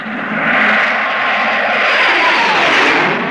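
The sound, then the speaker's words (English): A loud, steady helicopter engine roars overhead as it flies over a motorcade, a broad sustained drone that swells slightly and holds, with no voices present. “The Spectrum helicopter is overflying the motorcade. And the Spectrum Angels are patrolling the area.”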